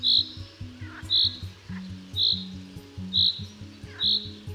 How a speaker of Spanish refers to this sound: Posado emite un fuerte y penetrante piído, mientras que en vuelo es más suave y débil.